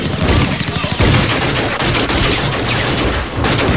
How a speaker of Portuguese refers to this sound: Quando os policiais do Rondesp chegaram, Marco, foram recepcionados a tiro. É bala! É bala!